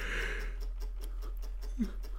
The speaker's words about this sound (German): Tut mir leid, ich gähne gerade die ganze Zeit. Ich hoffe, ihr hört es nicht allzu krass, aber wenn ihr die Pausen merkt, das liegt daran, dass ich gähne.